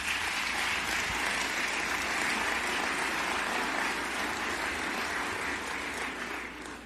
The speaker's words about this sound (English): Urban League affiliates, I congratulate your incredible work during that very difficult time in American history, and you deserve another applause for that work.